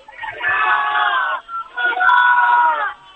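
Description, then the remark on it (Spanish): A huge crowd roars together in the packed Plaza del Ayuntamiento in Valencia, Spain: two sustained, loud swells of massed shouting with a brief dip between them. “Bueno, la plaza de Ayuntamiento está llena. Un grito.”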